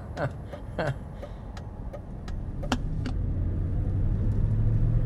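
A car engine rumbles low and steady, growing slightly louder toward the end, with a few brief clicks and rattles scattered over the first few seconds.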